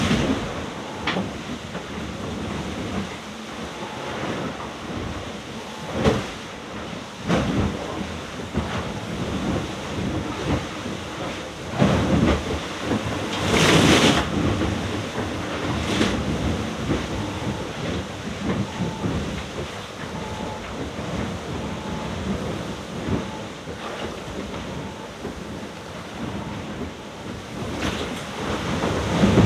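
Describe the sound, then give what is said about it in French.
Heavy sea waves crash and slosh continuously against the hull of a sailboat out on the ocean, with loud irregular bursts of spray and deep rumbling water, heard from inside the boat with no talking. “C'est violent là. Je suis terré dans le bateau, j'ai trop la flemme de sortir, ça mouille à mort.”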